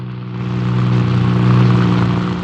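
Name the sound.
car engine accelerating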